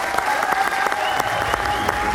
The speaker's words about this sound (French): Un tonnerre d'applaudissements.